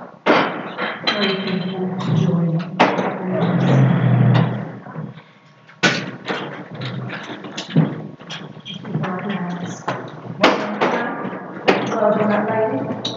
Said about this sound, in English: So, I need to put the chair back.